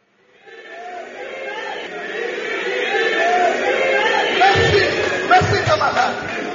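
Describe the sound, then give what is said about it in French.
A large crowd at a trade union meeting in Congo shouts "Bis" for an encore, calling on a trade unionist to resume his speech; the clamor of many voices swells quickly from silence into a loud, sustained roar, with a few dull thumps breaking through near the end. “Bis, cette réaction de la foule, c'était pour demander au syndicaliste Lushiku de reprendre son discours incriminant le comité de l'intersyndicale nationale du Congo.”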